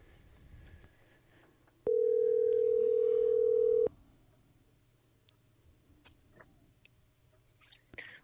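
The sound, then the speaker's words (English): On an outgoing phone call, the line's ringback tone sounds once, a steady electronic hum lasting about two seconds, loud and clear against a quiet background with a few faint clicks before and after. “I hear a phone ringing. It's ringing.”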